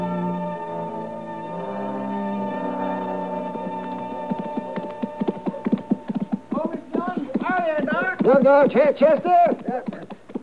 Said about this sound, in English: It's a good-looking horse Chester's riding, Matt. He's thinking of buying it, Doc.